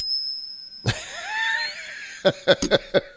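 Silver coins clinking together: one ringing metallic strike that hums and fades, then a quick run of about six bright, high clinks, each with a short shimmer. No one speaks.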